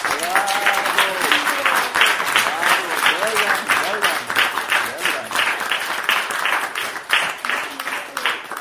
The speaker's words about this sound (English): I would just really like to request you that we give a random applause to everybody who participated. Wow. Wow.